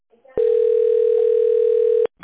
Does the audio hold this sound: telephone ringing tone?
yes